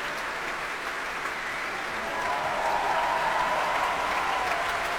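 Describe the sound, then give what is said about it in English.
Sustained applause from a concert audience for a young orchestra and its conductor John Adams, who comes back onto stage to take another bow, a dense steady clatter of many hands that grows slightly louder partway through and holds at that level to the end. “you really can feel the appreciation and the applause here.”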